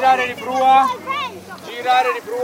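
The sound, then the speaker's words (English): Seaside ambience on the Tyrrhenian Sea with a low steady rush of wind, a dozen children's voices calling and chattering, and faint movement as they carry small boats together down to the shore for their daily sailing class. “A dozen kids are carrying small boats together down to the shore for their daily sailing class.”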